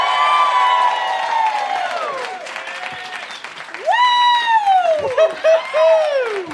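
An audience applauds loudly for several seconds as two people are called on stage, while voices cheer and whoop over it, with long rising and falling shouts standing out above the steady clatter of clapping.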